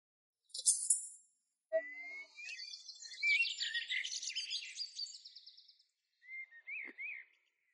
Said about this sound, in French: Un oiseau! Un oiseau! J'ai repéré un oiseau!